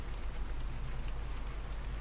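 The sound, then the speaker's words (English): Rain falls steadily in a soft, continuous hiss with faint scattered patters over a low rumble, no voices, holding an even level for the whole two seconds. “Listening to the sound of the rain.”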